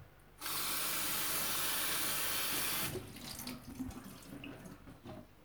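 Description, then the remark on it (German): A tap runs steadily for a couple of seconds, then shuts off, leaving soft splashing and sloshing as lettuce leaves are gently washed by hand in a bowl of cold water. “Und wascht sie vorsichtig in einer Schüssel mit kaltem Wasser.”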